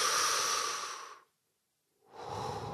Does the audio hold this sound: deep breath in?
yes